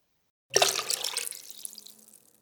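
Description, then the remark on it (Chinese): Pink liquid from a bottle is poured into a bucket, starting with a sudden splashy gush and settling into a bubbling, trickling flow that slowly tapers off over about two seconds, with no talking. “你把这瓶粉红的液体倒进水桶里”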